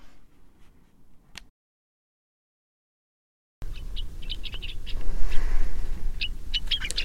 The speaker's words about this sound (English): The severe cold last weekend brought a huge flock of gray-crowned rosy finches to our feeders, so let's start with that.